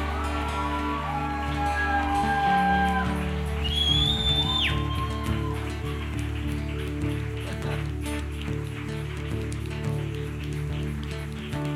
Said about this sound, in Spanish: Vamos a darle un aplauso que haga temblar el suelo bogotano. Damos un fuerte aplauso al campeón de campeones.